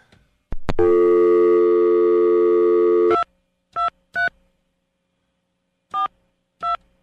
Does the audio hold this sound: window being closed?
no